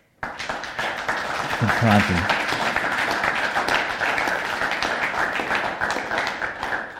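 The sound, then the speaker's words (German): A church audience breaks into sustained applause for God, a dense, steady wash of many hands clapping at even loudness for several seconds, with a brief murmur of voices or cheering mixed in early on. “Können wir diesem Gott einen Applaus geben?”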